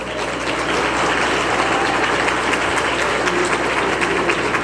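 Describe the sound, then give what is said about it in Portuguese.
Sustained applause from a church audience, a dense, steady wash of many hands clapping at once, fairly loud and even throughout with no voices standing out. “Olha, salva de palmas também seria bom assim.”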